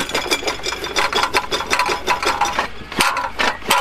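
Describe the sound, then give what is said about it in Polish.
A tractor-mounted auger in the Mały Bór forest district grinds and rasps as it bores post holes 3.5–4 metres apart, nearly a metre into the ground, tearing through roots: a harsh, gritty churning with irregular scraping surges and a sharp crack near the end, steady and loud with no voices. “Jak pan widzi, stoi wiertnica na traktorze, która wierci otwory w odległości 3,5-4 metry.”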